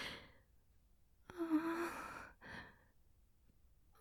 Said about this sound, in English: Breathing in your ear.